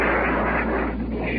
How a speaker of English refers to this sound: Now planes are going overhead. That baby was plenty low. Heavy fire from the naval warship. As well as 20 millimeter and 40 millimeter tracer.